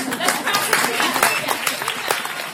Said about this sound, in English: That means that we need all of your energy coming at us this way. That means when you see something great and you want to applaud, you applaud!